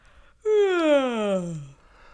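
human body sound, yawn

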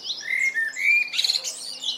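bird, blackbird song

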